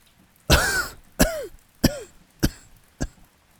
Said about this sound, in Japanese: 乾いた咳。それでも言葉は止まらない。